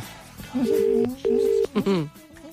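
A phone line rings back with a double burst of steady buzzing tone, two short pulses with a brief gap, clear and fairly loud, as a Today FM radio presenter calls a listener, followed by a short murmur of voice.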